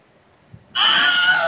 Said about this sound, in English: All right, that's our timer, which you will probably notice is the Wilhelm scream. you know, just to try and keep things on track